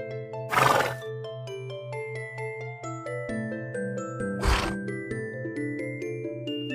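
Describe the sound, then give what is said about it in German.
A horse neighs and snorts twice, once near the start and again a few seconds later, with the breathy bursts rising over steady, gentle instrumental music playing throughout. “Immer das Lachen der anderen Feen und das Wiehern und Prusten der Einhörner im Ohr.”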